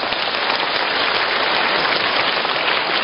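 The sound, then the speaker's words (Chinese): An audience claps steadily for about three seconds, a dense, even wash of many hands with no letup or peaks and no voices over it. “你们一鼓掌，台长就吃喝了。你不要鼓得太多。”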